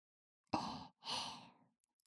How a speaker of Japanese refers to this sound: お耳に息吹きかけたら